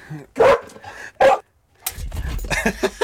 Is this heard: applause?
no